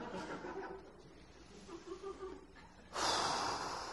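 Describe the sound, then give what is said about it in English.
Soft breathy nasal sounds give way to one loud sniffing snort near the end, a sharp forceful inhale through the nose with no talking. “I'm not going to stop sniffing pastrami or whatever.”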